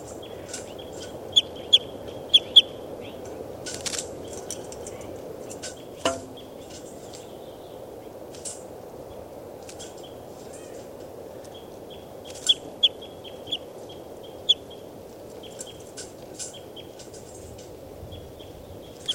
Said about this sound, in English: Start recording, this is bird 392.